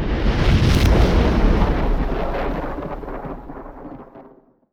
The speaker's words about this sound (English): A dozen flashes chase each other across the goldenrod sky. Thunder cracks like artillery.